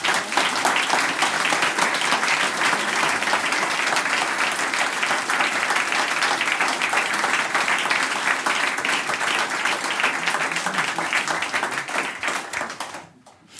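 A crowd applauds steadily, a dense wash of many hands clapping at an even, loud level for over ten seconds before it tapers off quickly at the end.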